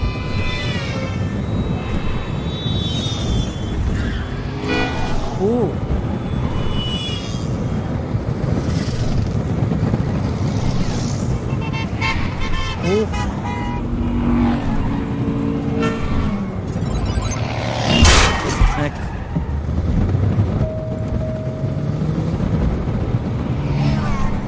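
A car engine drones steadily throughout, its whine rising and falling as it revs, with a loud, continuous roar and occasional brief swooshes and tonal blips layered on top.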